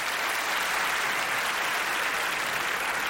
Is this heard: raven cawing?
no